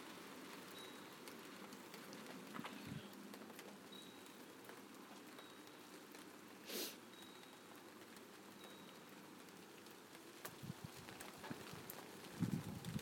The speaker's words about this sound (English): Oh dear, the rain's blowing in on the furniture.